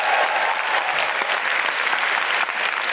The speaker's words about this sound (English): Big round of applause for all the composers.